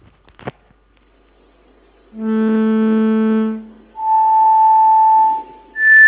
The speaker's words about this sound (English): Okay, now uncoils and look at the basal membrane, and now see what happens when we play individual tones.